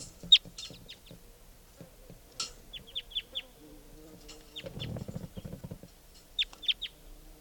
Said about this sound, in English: I think there's a wild bird here.